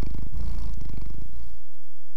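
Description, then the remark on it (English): A cat purrs in a steady, rumbling low drone for about a second and a half, then the purr fades out into near silence. “The cat was purring.”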